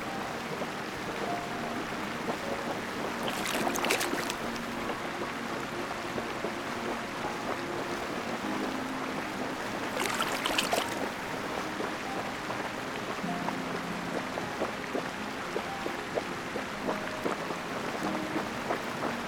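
Soft, steady lapping of lake water against a boat, a continuous gentle wash with a couple of brief louder splashes, calm with no voices.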